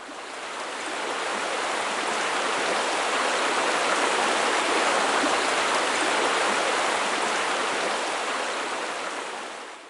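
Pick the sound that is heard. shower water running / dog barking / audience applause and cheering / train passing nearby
shower water running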